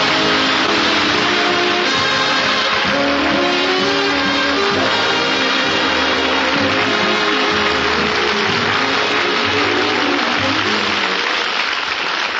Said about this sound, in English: You're all applauding, and you got those smiles on your faces, and you're glad to see me.